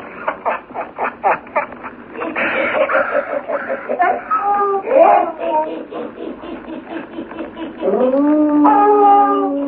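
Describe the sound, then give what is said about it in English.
Several frightened dogs howl and whine together, starting with short rapid yelps before rising into sustained, wavering howls that swell loudly near the end, sounding agitated. “See, Buana, even the dogs, they are frightened. Whiskey, leader, shut up.”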